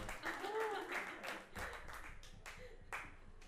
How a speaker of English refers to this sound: No one, not that many people clapped.